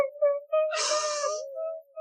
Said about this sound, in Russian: Не плачь, дитя мое.